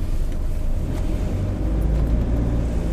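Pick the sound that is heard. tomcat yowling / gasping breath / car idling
car idling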